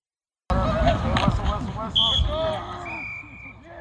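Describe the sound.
Football practice at Sheldon High School's football stadium in Elk Grove: dull thuds of pads and helmets colliding, shrill whistle blasts, one short and one longer, and coaches shouting "hustle up" over the action.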